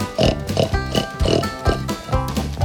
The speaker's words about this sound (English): Come and see the little piggies.